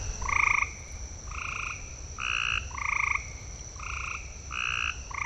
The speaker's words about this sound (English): Now, having lived near a lot of swampland in Florida, I do recognize that as a frog. But I think when I first heard it, when I'd moved down to the south in 1990, I was clueless about what this was.